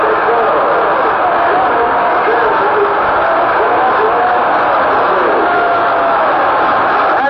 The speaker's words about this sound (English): 37-yard field goal by Bojecki. Listen to this crowd.